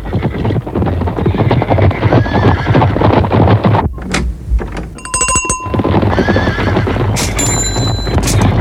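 A herd of zebras whinnying over a dense, steady clatter of many hooves, in a Monty Python sketch of zebras visiting a chemist, with a brief lull midway and a couple of short, bright ringing tones cutting through.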